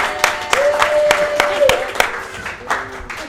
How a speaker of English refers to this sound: You guys can give him a big round of applause that are in audience right now.